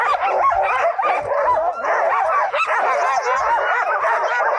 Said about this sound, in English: It's the Norris Glacier Dog Sledding Camp. Each year from late April through mid-August, nearly 200 dogs from all over the U.S. live on the glacier. It's located 3,000 feet above sea level.